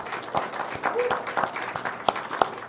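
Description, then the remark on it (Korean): A church audience applauds to give glory to God for guiding them through the past year, a steady wash of many hands clapping at moderate loudness, with a few sharper claps standing out above the crowd for the whole few seconds. “우선 지난 한 해 우리를 인도하신 하나님께 영광의 박수를 돌렸으면 좋겠습니다.”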